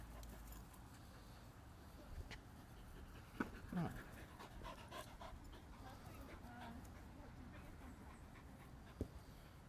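A dog named Molly pants steadily in Pocket Park, quick breathy huffs running through the whole stretch, with a few faint thumps and a brief whimper-like squeak partway through, over outdoor background noise.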